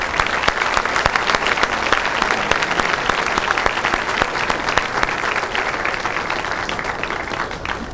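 A room full of people claps steadily for several seconds for the standing graduates of Santa Rosa Christian School, dense overlapping hand claps forming a loud, sustained wash of applause with no talking over it.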